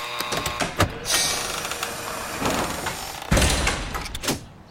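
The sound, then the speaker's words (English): A door is opened with a run of mechanical clicks and clunks, then a longer sliding, scraping rumble and a final clatter, with no voices. “Open the door.”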